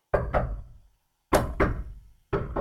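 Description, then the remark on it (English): Someone outside knocks on a door, heard through noise-canceling headphones that let only the knocks through: quick pairs of solid, hollow raps, repeated three times with short pauses between, the last pair cut off. No one speaks. “someone outside is knocking on that door.”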